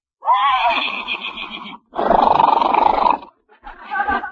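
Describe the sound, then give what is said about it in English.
A horse whinnies loudly in three strained, harmonic calls: a long wavering one, a harsher second, then a short final burst. No voices are heard. “See, Pasquale, horsey likes him, yeah.”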